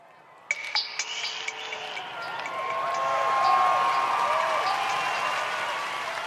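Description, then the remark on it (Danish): A large audience in a hall claps and cheers during the final vote count of a song contest, the dense applause swelling to a peak midway and holding steady, with high whoops and shouts rising above it and a sharp knock near the start. “Stemningen i salen, den er nervepirrende, og publikum hujer og klapper.”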